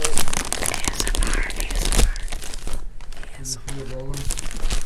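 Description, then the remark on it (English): A package is opened with loud, dense crinkling and crackling of plastic for a few seconds, the rustle thinning out as a voice briefly speaks near the end. “And she's opening the ASMR.”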